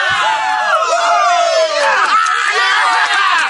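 A loud crowd cheers and whoops continuously, celebrating the 50th anniversary of Mr. Remodeler, many overlapping voices shouting and hollering at high pitch with no pauses, a steady wall of rowdy celebration throughout.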